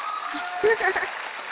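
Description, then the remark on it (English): A canned burst of applause from a sound-effect button, a dense, steady crackle of clapping at even loudness, with a few cheering voices rising briefly in the middle. “Round of applause button.”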